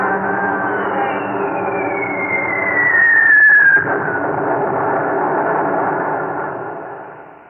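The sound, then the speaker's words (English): A high whistle slides steadily downward over a dense, roaring drone of Japanese bomber engines during an air raid on Chongqing, ending in a heavy thump of a bomb explosion before the rumble slowly fades out. “When the echoes of the last bomb had died and the last Japanese plane had left, whole sections of Chongqing again lay in ruin.”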